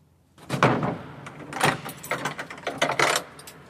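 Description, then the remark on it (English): A heavy, strong door in a mausoleum swings open with a grinding scrape, followed by clattering and a solid closing thud, all loud with no voices. “It's a very strong door all the time.”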